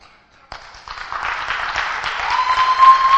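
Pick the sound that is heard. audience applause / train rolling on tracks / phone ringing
audience applause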